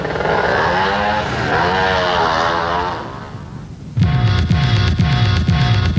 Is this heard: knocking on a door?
no